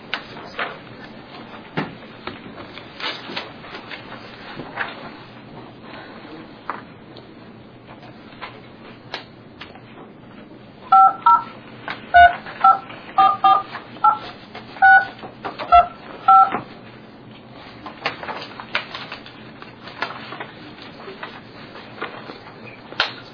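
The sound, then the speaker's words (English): A series of about ten touch-tone telephone dialing beeps, short two-tone pips in a quick uneven run, clear over a faint background hiss, with no one speaking, dialed while a caller is put on hold to try to get Commissioner Fiscom back on the line. “we'll put you on hold, try to get Commissioner Fiscom back on the line, and we'll come back.”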